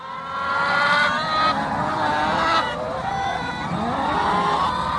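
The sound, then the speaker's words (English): A flock of about 1,000 chickens bought for a backyard, clucking and squawking all at once, a dense, continuous din of overlapping calls that stays loud throughout. “Mr. Morrow accidentally purchased 1,000 birds rather than one”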